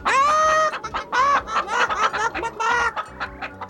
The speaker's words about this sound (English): we bulldozed several chickens who were foolish enough to stand in our way. They were pecking gravel and seeds and other garbage that chickens eat, and you should have seen them scatter when we went zooming across the gravel drive.